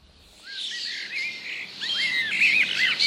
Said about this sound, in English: Who doesn't love garden birds? More than 16 million households are reckoned to regularly put out food for them.